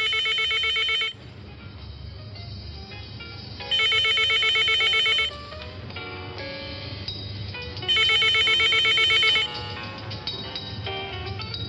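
A telephone in a studio rings in three loud, bright bursts of about a second and a half each, separated by pauses, over a low steady background hum.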